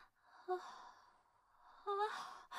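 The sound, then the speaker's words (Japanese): A big, drawn-out yawn with a breathy, voiced groan, followed by a second long yawn a moment later, both fairly loud with no talking. “でっかいあくび。”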